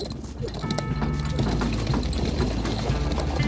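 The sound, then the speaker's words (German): The hooves of an enemy's horse clip-clop in a quick, steady rhythm, loud and continuous throughout, over a low droning hum and some faint background voices. “Also achte auch auf sein Pferd.”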